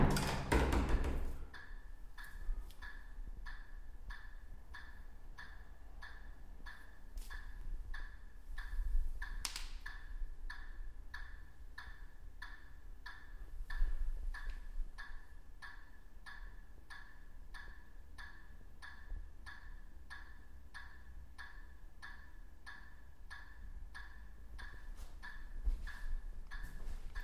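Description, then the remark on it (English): A steady, rhythmic ticking repeats at an even pace throughout, less than a second apart, fairly quiet, over a low rumbling background with no voices; it is not a clock and does not come from outside. “That's the noise of the ticking.”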